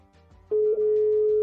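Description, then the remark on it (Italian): A telephone ringback tone comes through the line after a button is pressed: a single steady, loud electronic tone starts partway in and holds to the end, with faint background noise before it, no talking, and no one answering at the other end. “Squilla.”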